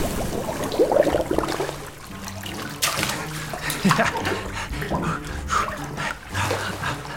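splashing water

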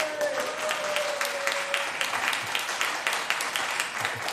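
audience clapping

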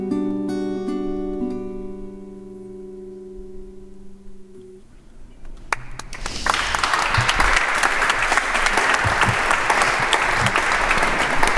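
audience applause

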